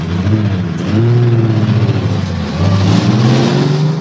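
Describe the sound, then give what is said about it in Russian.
Cars drive past on an open square, their engines humming and rising in pitch as they go by, with steady traffic noise filling the background and no voices. “Да вы на площадь загляни. Там машины.”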